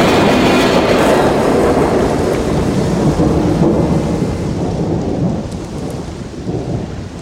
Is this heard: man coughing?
no